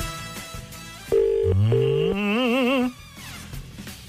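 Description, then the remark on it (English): A phone line rings on an outgoing call placed from the Today FM radio studio: a loud electronic tone holds steady, then slides upward and wavers into a warbling pulse for a few seconds. No one speaks. “It's ringing.”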